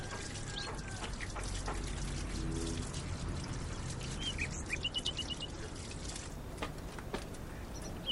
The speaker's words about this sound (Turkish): Kırık bir aynaya bakarak bahçedeki çeşmede ellerini yıkayan 15 yaşlarında erkek bir çocuk.